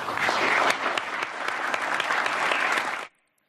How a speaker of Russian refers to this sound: Бурные и продолжительные аплодисменты.